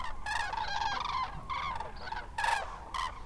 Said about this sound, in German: Die ersten Kraniche haben sich schon formiert. Zu zweit, zu dritt, zu viert erheben sie sich und fliegen majestätisch über uns hinweg. Erst ist es nur vereinzelt zu hören, das typische Kranichtrompeten, wie Experten es nennen.